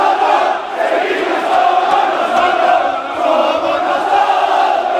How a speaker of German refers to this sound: Hört euch das an. Die Mannschaft kommt in die Kurve und wird ausgepfiffen und niedergebuht.